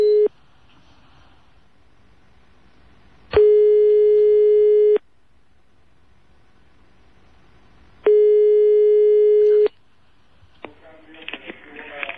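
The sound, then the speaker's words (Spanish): A telephone ringback tone as a random phone number is called during a radio program about Unión Deportiva Las Palmas: steady, mid-pitched electronic buzzes about a second and a half long, separated by roughly three seconds of silence, followed by crackly line noise as the call connects. “Vamos a llamar un teléfono al azar”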